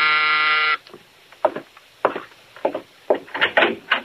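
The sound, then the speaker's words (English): A loud, harsh electric apartment door buzzer sounds in Mike's apartment in one steady burst lasting under a second. It stops abruptly, and a few short spoken exchanges follow. “Now Mike is in his apartment when the door buzzer sounds.”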